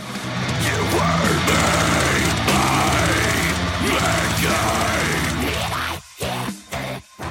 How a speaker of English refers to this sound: Death metal vocalists also train their voices to hit a unique guttural register, and that scream is not as easy to master as you might think.